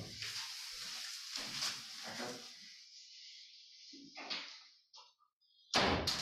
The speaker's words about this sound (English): Hi, can you get just close the door?